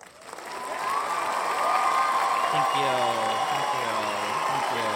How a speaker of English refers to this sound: Applause sound effect for you. Applause sound. Wait.